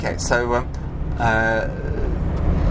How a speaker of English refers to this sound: You can hear the car going tool, tool, tool, over the road, eating up the road.